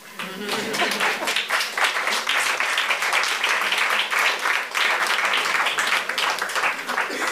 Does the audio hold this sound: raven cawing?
no